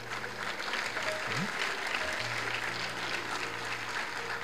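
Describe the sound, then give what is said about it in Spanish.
A large audience claps steadily, the dense patter of many hands filling the whole stretch at an even level, with a faint low hum underneath and no one speaking. “Ahora, quizás para nosotros es fácil aplaudir y decir: esa es la decisión que yo también haría.”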